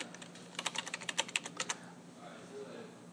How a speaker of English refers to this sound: then this miracle came along, the IBM Selectric 3. That's the IBM Selectric 3. Cast aluminum, weighed about 75 pounds.